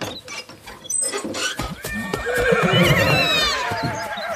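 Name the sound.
horses neighing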